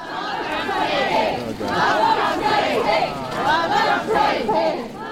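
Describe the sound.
A large protest crowd on a street shouts and chants loudly in rhythmic bursts, many voices overlapping in a dense, continuous roar with repeated swells.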